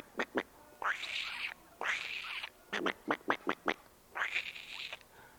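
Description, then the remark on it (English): Ducks quack loudly by a pond, mixing long drawn-out nasal calls with quick bursts of short sharp quacks in an uneven rhythm, with no voices. “And off into the woods and down by the pond, wasn't unusual to see and hear ducks.”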